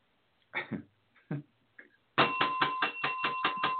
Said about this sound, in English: Yeah, we're going to go ahead and hit the bell on that one.